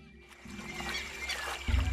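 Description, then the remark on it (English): Deer wade through lake water, with steady sloshing and splashing; faint bird calls sit in the background and a low rumble swells near the end. “Deer moving through water.”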